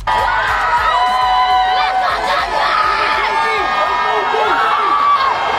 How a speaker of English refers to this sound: The sound of the crowd as the buses pulled up just moments ago in front of City Hall. It's the Dodgers victory parade, and those buses now are rolling.